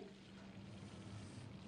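Something is poured or tipped into a cooking pot, a steady, continuous rushing pour with a faint low hum, fairly quiet, with no one speaking.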